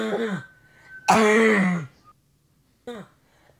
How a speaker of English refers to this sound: Things can be like beatboxing, like a little coughing into the mic.